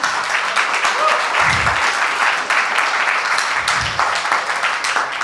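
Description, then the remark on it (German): Sustained audience applause as the visualisation prize is awarded to the team Datenhirsche, a dense steady wash of many hands clapping at even loudness throughout, with a couple of brief low thumps mixed in. “Den Visualisierungspreis bekommen die Datenhirsche. Applaus.”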